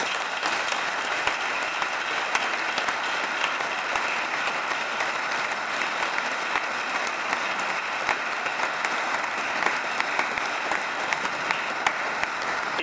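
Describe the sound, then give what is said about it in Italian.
A church audience applauds steadily for about thirteen seconds in thanks to Don Ettore, a dense, even wash of many hands clapping, with no voices breaking through. “E possiamo fare ancora un applauso.”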